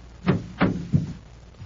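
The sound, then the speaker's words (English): The heavy door of a cold storage loading chamber is pulled shut to hold the temperature down, with three deep, booming clunks in quick succession, then a faint final knock as it settles. No voices are heard. “We'd better secure the door to hold the temperature down.”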